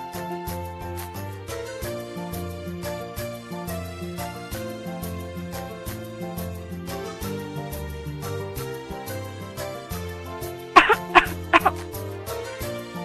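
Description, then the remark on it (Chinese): Soft background music plays steadily during a meal, then near the end a child coughs three times in quick succession, away from the dinner table, the coughs sharp and standing out clearly above the music. “你做得很对，咳嗽的时候千万不能对着餐桌。”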